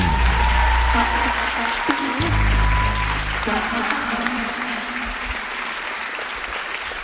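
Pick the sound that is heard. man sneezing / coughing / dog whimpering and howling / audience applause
audience applause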